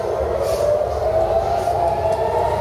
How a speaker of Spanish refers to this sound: Las sirenas no han dejado de sonar en Teherán por las bombas israelíes, ataques que Irán califica de crímenes contra la humanidad.